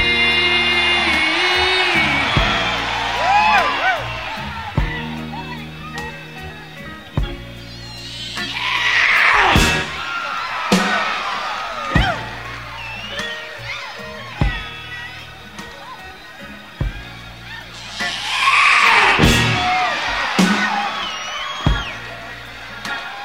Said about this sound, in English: It make me feel so good, I wanna scream. Is it all right if I scream?